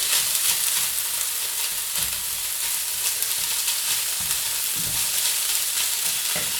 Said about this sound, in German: Und lassen jetzt auch den Tofu schön anbraten. Und ihr seht jetzt zum Beispiel hier, sehr spannend schon, wie der Tofu diese gelbe Farbe von dem Kurkuma annimmt.